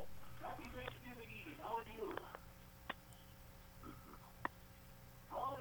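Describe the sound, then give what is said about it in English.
A caller on a narrow, tinny phone line imitates a turkey gobble on Thanksgiving Eve, a warbling burst of rapid gobbling calls lasting about two seconds, then faint line noise and a few soft clicks. “Did you hear we got a gobble, gobble, gobble there?”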